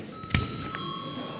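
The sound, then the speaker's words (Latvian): An electric parliament chamber bell, rung at the chair's request during a sitting of Latvia's parliament, rings with a steady, high, continuous tone that holds to the end, opening with a short thump. No one speaks. “Lūdzu zvanu.”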